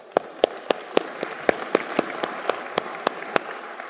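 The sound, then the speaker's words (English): An audience in a church applauds at a speaker's request, a dense wash of clapping with sharp individual claps standing out in a fairly steady, quick rhythm at moderate loudness, with no one talking. “Now, why did you clap?”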